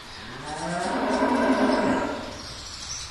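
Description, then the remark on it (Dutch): A dairy cow lets out one long, low, droning moo that swells and fades over about two seconds in a cowshed where the cows eat, drink and are milked, on a family dairy farm in Almkerk, the Netherlands, with a soft background hiss and no voices. “We staan nu in de stal, in de koeienstal van de koeien waar ze kunnen eten, drinken en gemolken kunnen worden.”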